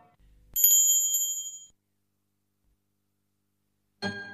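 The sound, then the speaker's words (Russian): A small bell rings once, clear and bright, its tone lingering and fading over about a second before silence, followed by a brief burst of noise at the end. “Вдруг послышался звук колокольчика”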